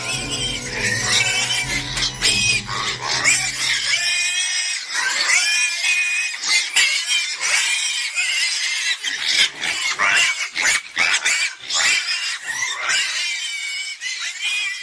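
Several pigs grunt and squeal loudly, with shrill, wavering squeals overlapping almost continuously and a deeper rumbling grunt underneath during the first few seconds.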